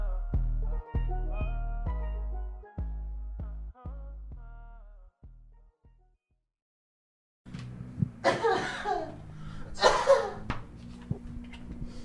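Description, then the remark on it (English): After a stretch of music fades to silence, a few small coughs burst out in quick succession, short and breathy, with a light background hum. “no it's the cutest coughs I've ever heard.”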